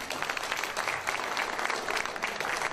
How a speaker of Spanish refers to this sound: ¡Fuertes aplausos!